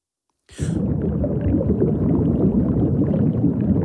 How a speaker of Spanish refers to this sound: Aquí estamos metidos dentro del agua. Da la sensación, la magia de la radio, sí.